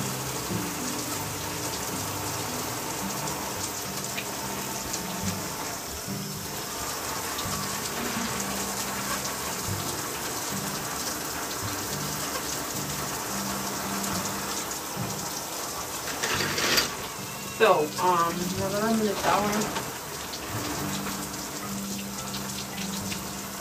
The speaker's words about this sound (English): Hop into the shower. It feels good to be washing my hair because my hair is dirty. I haven't washed my hair. I probably washed it one time. So let's hop into the shower.